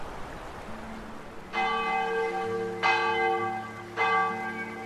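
Parish church bells in Tame ring out at dawn in repeated strikes, three strong clangs about a second apart, each leaving a long shimmering hum that overlaps the next, with no voices present.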